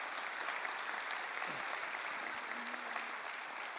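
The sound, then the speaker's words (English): A crowd applauds steadily, cheering the announcement that the last payment on a debt paid since 1991 will be made this Tuesday; a dense, even wash of clapping with a faint cheer or two rising briefly through it, sustained and fairly loud with no talking on top. “Now, the people who are really cheering the most are people who've been paying since 1991.”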